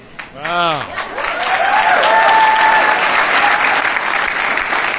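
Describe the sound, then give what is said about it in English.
A town hall meeting audience of Republican voters bursts into sustained applause, clapping to show they believe climate change is real: a dense, steady wash of clapping lasting several seconds, with a few voices and cheers rising through it at the start. “Republicans! Republicans, clap.”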